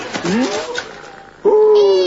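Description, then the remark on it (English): A female cat named Cynthia meows twice, fairly loud: a drawn-out, rising-then-falling cry, a brief pause, then a second, stronger meow that holds steady before trailing off. “Who's been a clever little kitty cat and drank all the milk you eh?”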